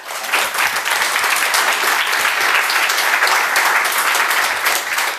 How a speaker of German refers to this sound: Applaus dafür bitte.